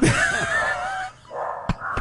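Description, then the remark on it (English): Dogs yelp and bark excitedly at a knock, a high, wavering whine-like yelping giving way after a brief pause to two sharp barks. No one speaks. “Let's let the dogs calm down”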